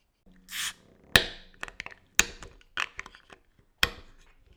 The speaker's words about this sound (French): Ah, t'es sur un bouchon un peu plus difficile. Hein. Ouais, c'est les gros bouchons.